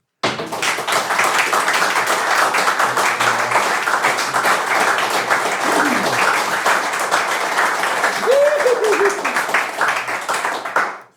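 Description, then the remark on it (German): Sustained audience applause as an applause test for two guests, a dense, steady wash of many hands clapping for about eleven seconds, with a couple of brief voices calling out near the end before it cuts off. “Eben, und bevor wir so weit sind, Applausprobe für die beiden Gäste.”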